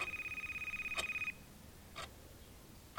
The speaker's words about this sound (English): I remember the phone ringing in the middle of the night.